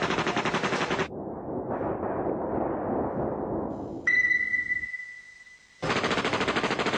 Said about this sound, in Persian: دفعه یه رگبار شدید رو سر مامورین گرفت.